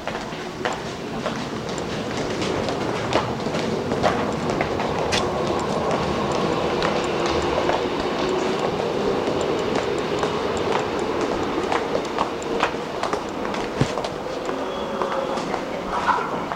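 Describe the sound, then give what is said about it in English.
A train rumbles steadily through a station and down into a tunnel, its wheels clattering with scattered sharp clicks and faint metallic squeals over a constant low roar, loud throughout. “I hear a train down there.”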